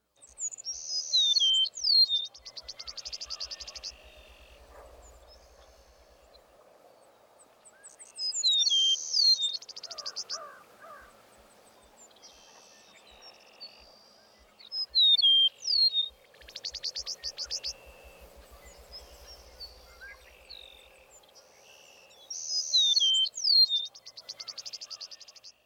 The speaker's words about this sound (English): The song typically includes two downslurred whistles. Also, listen for a distinctive guttural phrase at the end of the meadowlark song.